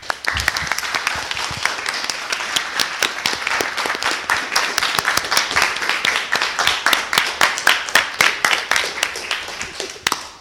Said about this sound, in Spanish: ¡Qué manera de aplaudir!